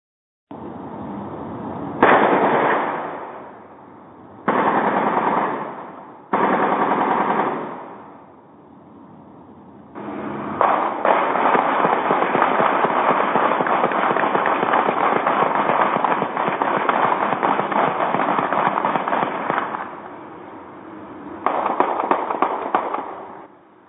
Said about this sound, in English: In 2019, the Jacksonville Sheriff's Office implemented the ShotSpotter gunfire detection technology, and now as prosecutors, we can hear these shootings, and I'm going to play one for you.